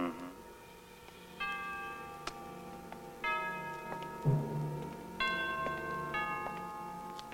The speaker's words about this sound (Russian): Колокол трезвонит целый час.